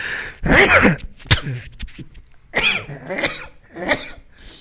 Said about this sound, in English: The reason why I sneeze and my throat cough is because of the damage in my throat, folks, okay?